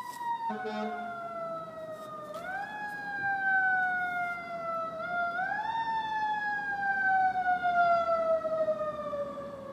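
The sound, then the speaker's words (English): A fire truck siren wails continuously, its tone sliding slowly down then sweeping back up in long glides, loud and steady over a low engine rumble throughout. “That's a proper fire truck.”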